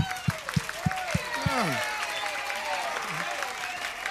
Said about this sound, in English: Just holler loud as you want it, baby. You know? You got mics there, mics all around you. Scream and give us that applause. Help us to eat tomorrow.